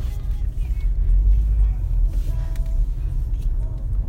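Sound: car rumbling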